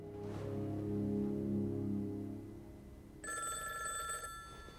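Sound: bedside telephone ringing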